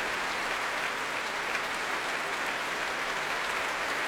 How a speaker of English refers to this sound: And the players, well, applauding each other as well they might. And Joshua Bell coming back on stage with Valery Gergiev.